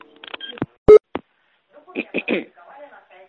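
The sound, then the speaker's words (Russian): A few short electronic keypad tones beep in quick succession, followed by sharp clicks like phone buttons, then muffled voices talking briefly in the background. “Или сейчас я на узел связи позвоню, чтобы тебе отрезали вообще телефон.”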